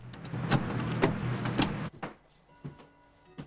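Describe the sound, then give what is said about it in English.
A woman gets into her car after ending a phone call: rustling and shuffling with a few soft thumps, a door shutting, then a quieter cabin with faint steady tones and occasional small knocks. “She rings off and gets in her car.”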